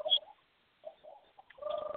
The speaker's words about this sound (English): You're hearing gobbles of turkeys, and look what you're seeing.